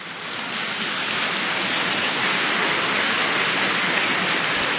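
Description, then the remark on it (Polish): Sustained applause from a church audience before Mass, encouraging children to come forward: a dense crackle of many hands clapping that swells in over the first half second and then holds steady and loud, with no voices above it. “Zachęćcie swoich kolegów, koleżanki gorącymi oklaskami, żeby przyszli koniecznie do nas do przodu.”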